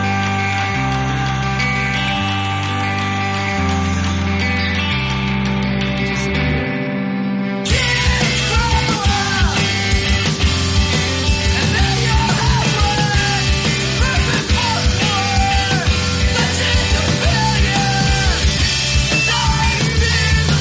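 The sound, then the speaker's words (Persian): Ringing guitar and bass open an emo rock song, then the full band crashes in loud with pounding drums, dense distorted guitars and raw, screamed vocals that continue to the end. “و همینطور این موزیسین ها صدای آوازی رو تو موسیقیشون به کار گرفتن که باز هم متناسب با صدای گیتارها و ملودی هاشون فریادی پر از صداقت، شور و احساس بود.”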